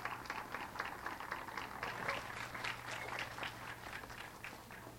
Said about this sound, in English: Let's clap them loudly onto the stage.